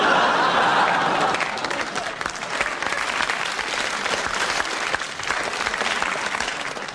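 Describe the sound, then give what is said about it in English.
A crowd applauds steadily for several seconds, dense, even clapping that stays loud throughout, with a few faint laughs mixed in. “Any man I know can get a round of applause on 2 dud ones.”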